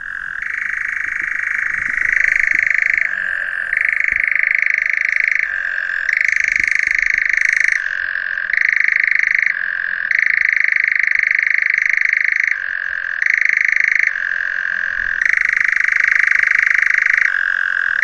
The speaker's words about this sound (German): So, das war jetzt der Ziegenmelker